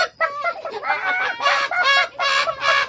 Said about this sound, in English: Suddenly, the cock jumped up and flapped his wings. He screeched and cackled. The hens woke up and screeched and cackled.